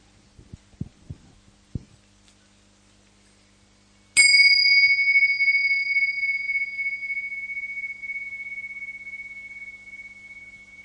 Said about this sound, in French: Voilà, je vous accueille avec un son de cloche pour commencer par une écoute partagée.